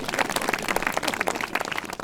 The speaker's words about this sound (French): On a pu entreapercevoir, elle a dû s'absenter, Delphine Bateau, députée des Deux-Sèvres, que je vous demande d'applaudir aussi chaleureusement, même si elle ne nous entend pas.